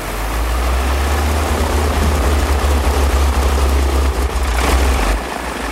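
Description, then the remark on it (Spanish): A small propeller plane's engine drones loudly and steadily, a deep rumbling roar that eases off near the end as the aircraft lands on a clearing near an expedition camp; no voices are heard. “Los del campamento van hacia allí a recibir a los pasajeros del avión.”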